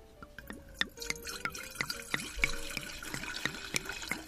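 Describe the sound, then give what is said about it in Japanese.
Sake from a brewery in Kanagawa Prefecture, Japan, glugs and trickles steadily into a glass, with a run of quick bubbling, rising pours, and no one speaking. “ではですねちょっとお次したいと思います。”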